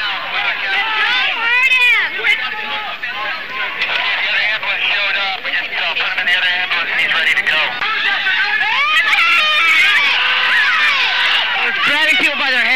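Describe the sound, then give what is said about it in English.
A man yells out in pain as he is grabbed, over the din of a loud, agitated crowd, his strained cries rising above constant overlapping voices and shouting for the whole stretch. “I see a man yelling in pain.”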